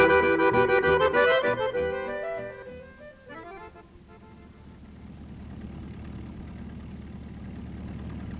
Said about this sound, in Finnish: Hyvää vauhtia kiiti auto.